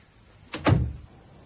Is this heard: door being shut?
yes